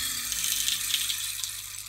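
A homemade rain stick tilted slowly, releasing a steady, dense trickle of tiny pattering grains that sounds like a soft rush of rain or running water, continuous, no voices.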